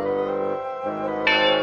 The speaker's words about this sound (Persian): میبخشین قربان، اما اون پسر جوان که میهمانی شماست برای تفریح و سرگرمی هی زنگ میزنه و زنگ میزنه و به محض اینکه من درو براش باز میکنم فرار میکنه.